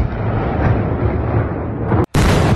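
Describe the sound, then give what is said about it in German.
Loud, continuous rumbling of explosions from Russian artillery attacks on a city at night, heavy and booming with deep low-end roar. The sound briefly cuts out near the end, then resumes just as intensely. No voices. “In dieser Zeit versank die ganze Stadt in völliger Dunkelheit, die nur von den Lichtblitzen der Explosionen der russischen Angriffe durchbrochen wurde.”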